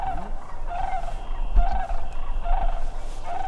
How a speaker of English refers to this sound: After hearing that first call, we move deeper into a more wooded area by the marsh's edge. A little while later, a second round of crane calls.